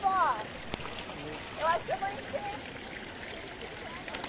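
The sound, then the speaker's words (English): Water from a public drinking fountain in Rome runs in a steady, hissing trickle as people drink from it, with faint voices murmuring and a brief knock early on. “But what's interesting about this fountain is where the water is. And look, you can see some people even drinking the water.”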